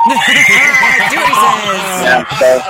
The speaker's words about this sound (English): Well, just having come from Silverstone yesterday, where we had so many fans, and come this morning, I really wasn't expecting to see so many people here so early. But you can hear these crowds. Make some noise!